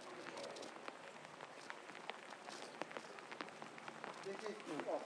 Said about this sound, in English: This is proper rain.